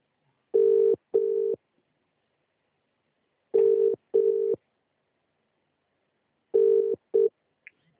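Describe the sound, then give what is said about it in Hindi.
A phone rings in three double bursts, each pair of steady electronic tones about three seconds apart, loud and clear with silence between and no one talking. “देखो कोई फोन कर अरे रहा है”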